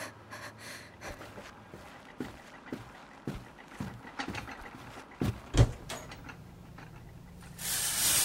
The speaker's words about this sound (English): This one for hot, this one for cold. The pipes creak a little, and sometimes it takes a minute to heat up, but it'll get there.